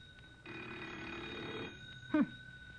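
A telephone bell rings once in a sustained, rattling burst lasting about a second, fairly loud, followed by quiet and a brief squeaky chirp.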